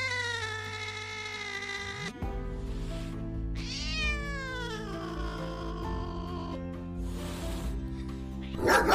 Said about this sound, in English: Oh, and I see you have a lovable dog, too. What's his name? Well, down boy.